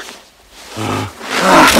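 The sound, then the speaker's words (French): Heavy, rasping breathing of a beast: a low, throaty inhale followed by a longer, louder, breathy exhale, with no voices. “Ah, écoutez, on dirait la respiration d'un animal. Il y a une bête.”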